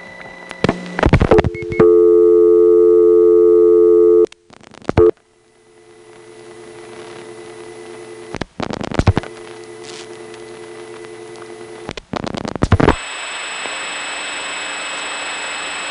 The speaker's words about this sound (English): Notice the sounds the first selector makes after each digit. As I dial 445, you'll hear the 4s being absorbed and then the 5 cutting into a very obvious N3 carrier trunk to Dallas.